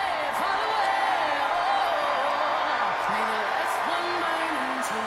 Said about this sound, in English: And the crowd enthused. This raucous crowd at the DNC, at the United Center. They're loving them, Kamala Harris.